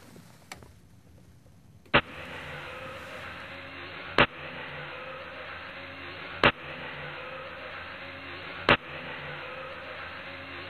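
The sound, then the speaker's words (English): A small German Messerschmitt microcar engine runs and revs with a steady buzzing drone after a quieter opening. Sharp clicks cut through it at regular intervals of about two seconds, with no voices. “which restarts the engine in the opposite direction”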